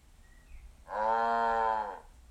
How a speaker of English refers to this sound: Okay. Echo, what sound does a cow make?